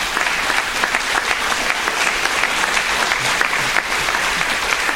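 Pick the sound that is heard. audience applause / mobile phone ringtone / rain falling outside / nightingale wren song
audience applause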